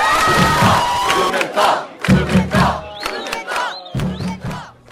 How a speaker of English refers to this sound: About halfway through the rally, the crowd started to chant for Acting Chancellor George Blumenthal to come out and speak.